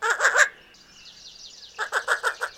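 A least bittern calls in a quick run of harsh, clucking notes, falls briefly quiet behind a thin, high background trill, then bursts into a second rhythmic series of four or five calls.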